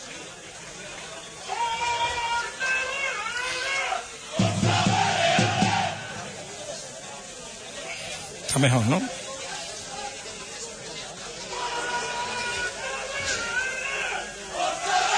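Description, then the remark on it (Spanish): A small group of Vélez football fans cheering and chanting in the stands, a dense steady roar with rising whoops and shouts, while a voice speaks briefly over it. “Bueno, aquí hay que decir que estamos sentados también junto a la afición de Vélez, y vamos a escuchar muchos aficionados de este equipo, porque los tenemos aquí justamente al lado.”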